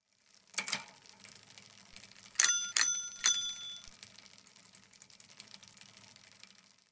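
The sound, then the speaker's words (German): A bicycle bell rings out three times in quick succession, bright, after a softer single ding, with a faint hiss of background noise underneath. “Das Fahrrad.”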